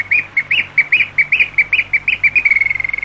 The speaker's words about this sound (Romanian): Iar când nu dispun, regizorul tehnic are miraculoase benzi care fac să cânte privighetori.